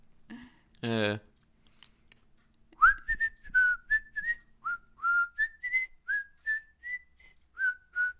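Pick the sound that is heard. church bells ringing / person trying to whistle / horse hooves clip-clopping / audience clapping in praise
person trying to whistle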